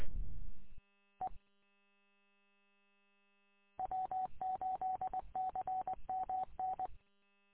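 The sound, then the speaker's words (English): A DMR digital radio transmission heard on a base radio: a short harsh burst and a brief blip, then about three seconds of rapid, stuttering buzzy chirps with a steady whine running through them. No one speaks. “Just thinking of it, because I'm hearing DMR open here. Nope, that's the base radio now.”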